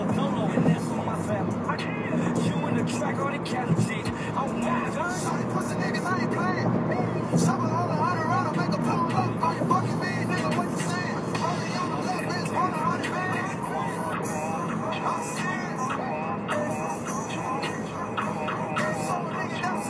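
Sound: car driving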